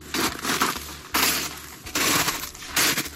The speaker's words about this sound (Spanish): Pisadas sobre el hielo y las palas que se afanan en retirar la nieve